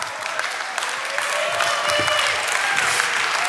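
An audience claps steadily for a few seconds, a dense, sustained patter of many hands filling the space at moderate loudness, with no voices standing out.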